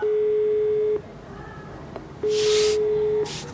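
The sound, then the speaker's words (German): An outgoing call's ringing tone: two steady, clear electronic beeps, each about a second long, separated by a short pause, with a faint hiss of line noise underneath. “Aber einer will immerhin kurz mit mir telefonieren.”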